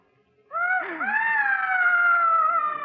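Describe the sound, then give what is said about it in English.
A single long, high-pitched wailing scream starts abruptly, wavers upward, then holds a steady, sustained tone for over two seconds with no talking. “It's those screams.”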